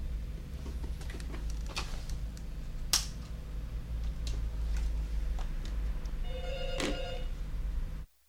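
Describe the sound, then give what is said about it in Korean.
A telephone rings once in a short electronic burst near the end, following scattered faint clicks and ticks over a low steady hum, with no voices, as a call is placed from another number to a phone connected to audio equipment. “제가 장비에 연결된 전화에 다른 번호로 전화를 걸어서 이야기하고 있습니다.”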